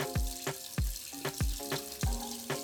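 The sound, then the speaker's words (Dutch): Vegetables being washed under running water: a steady, fairly loud hiss of flowing water broken by about a dozen dull, irregular knocks and thumps. No one speaks. “Eerst beginnen we met alle groenten te wassen.”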